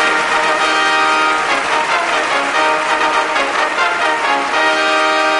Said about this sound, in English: Here we go. Kevon freaking Looney. Just give me the trumpets.